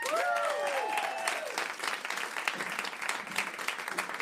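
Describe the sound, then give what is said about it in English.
An audience at a live performance claps steadily and loudly throughout as the next performer is introduced, with a few high whoops and cheers rising over the applause in the first second or so before settling into dense, continuous clapping. “Please, everybody, make some noise”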